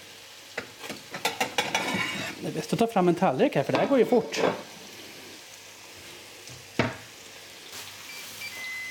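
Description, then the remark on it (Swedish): Hamburgers cooking on an OBH Nordica OptiGrill Plus grill with a steady, soft sizzle throughout, while a man talks for a few seconds, followed by a single dull clunk and more quiet sizzling. “Men hamburgare har jag inte testat innan, så det ska bli en upplevelse.”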